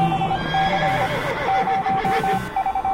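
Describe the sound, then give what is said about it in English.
A horse neighs loudly, a long quavering whinny filling the few seconds, with no one speaking over it. “Release the horses.”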